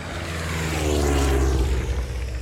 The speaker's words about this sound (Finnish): Ihan päällä lentokoneen ääni jotenkin katoaa ja silloin valpastuu näköaisti. Ja niin matalalla ajoivat, että me nähtiin aina sen ampujan naama. Niin matalalla lentivät.